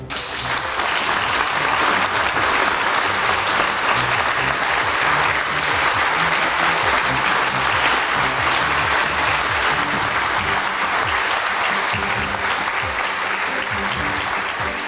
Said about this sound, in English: That applause went on for almost a minute.